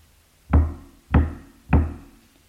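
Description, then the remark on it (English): Three firm knocks on a wooden surface, evenly spaced about half a second apart, each a deep thud with a short ring, fairly loud with no voices. “Now I want to do something that's a little dramatic. I'm going to knock.”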